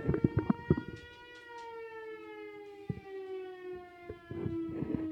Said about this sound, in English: Every day at noon, right outside this fucking window, a siren goes off.